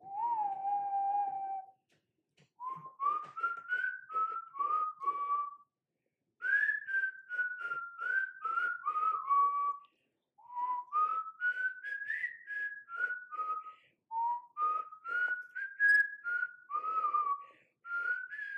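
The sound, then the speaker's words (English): Someone whistles a song melody alone, in four or five clear phrases separated by short pauses, each phrase stepping up and down through bright, sustained mid-high notes. “I have to whistle it because I have to.”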